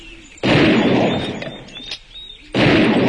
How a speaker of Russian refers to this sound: Опять послышались выстрелы. Редкие, глухие, но тех коротких и быстрых на этот раз не было.